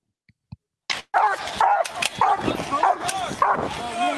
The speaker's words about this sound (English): He's speaking Malinois. I don't know. I don't speak Malinois. So I don't know what the dog is saying. It's French. So he's speaking French. The dog is speaking French. Dutch dog.